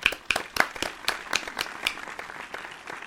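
A short burst of applause from a small group, with crisp, irregular hand claps overlapping in a steady patter of moderate loudness, no voices heard.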